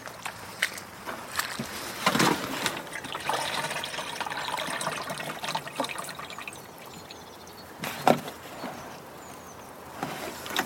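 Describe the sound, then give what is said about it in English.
A watering can being filled with pond water: a steady gurgling and sloshing for about ten seconds, with a few sharper splashes and knocks along the way. No voices. “Could you possibly fill up that watering can with some extra pond water, please?”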